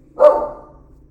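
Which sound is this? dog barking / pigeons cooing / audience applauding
dog barking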